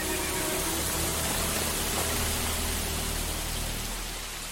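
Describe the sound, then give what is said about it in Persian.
Steady, dense rain hisses continuously, a broad wash of sound with a faint low rumble underneath, holding even throughout and easing slightly at the end. “بارون گرفت.”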